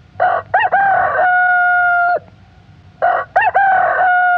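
A rooster crows twice, loud, each crow opening with a couple of short choppy notes before stretching into a long, steady held call, with a brief quiet gap between them.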